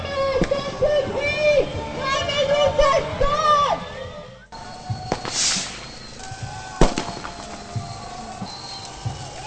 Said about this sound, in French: les pétards pètent un peu de partout